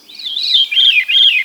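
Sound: veery song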